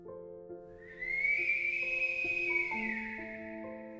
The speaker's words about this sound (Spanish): El silbido, de nuevo.